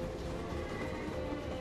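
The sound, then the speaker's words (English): A train glides into Moscow's main railway station with a steady, low mechanical rumble and faint hum, continuous and moderately quiet throughout, with no voices. “A train glides into Moscow's main railway station.”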